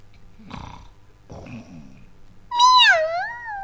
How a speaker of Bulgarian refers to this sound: Погледнете колко грациозни ни направи нас котките! Мяу!